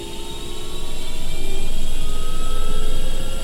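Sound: helicopter taking off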